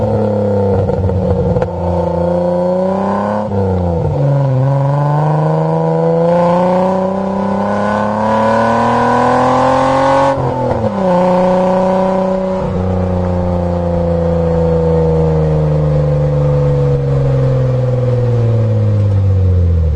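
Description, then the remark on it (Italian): A car engine revs loudly, its pitch climbing and dropping through several throttle blips and gear-like shifts over a sustained roar, with no voices. “Indovinate l'auto.”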